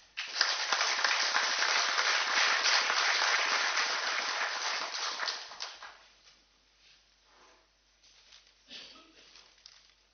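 An audience breaks into dense, loud applause that holds steady for several seconds, then thins out into a few scattered claps before fading to near quiet.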